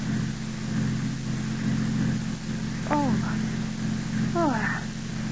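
A car that has been hurriedly turned around drives back up the road toward a turnoff marked Dr. James Harris. Its engine hums at a steady, moderate level throughout, with two brief vocal exclamations rising over the drone near the end.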